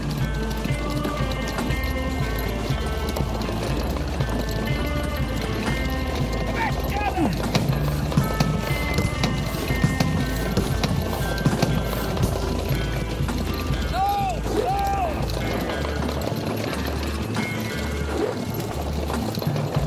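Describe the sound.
Steady clip-clop of horse hooves on a hard surface, a continuous rhythmic trot, with a brief whinny-like call and voices talking in the background.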